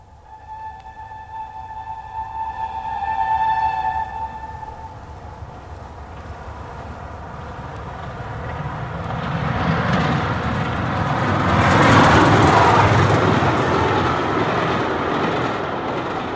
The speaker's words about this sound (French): Déjà le train siffle dans la plaine et je rentre à Paris.